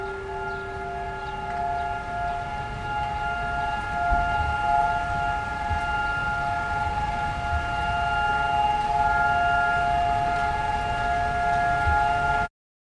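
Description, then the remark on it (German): A memorial siren sounding over Rabin Square in the city centre holds one long, steady wail with several sustained tones, loud and unbroken for about twelve seconds over a low rumble, then cuts off abruptly. No one speaks. “Doch sobald die Sirene erklingt, wird alles stillstehen.”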